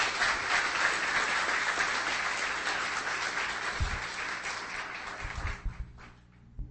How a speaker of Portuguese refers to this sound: Give them a big hand as they come. Give them a big hand clap as they come. Podemos bater palmas para as pessoas que vêm.